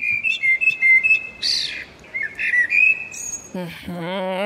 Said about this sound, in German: Ich denke, ihr wollt das jetzt sicherlich mal hören. Amseln in Frankfurt klingen so.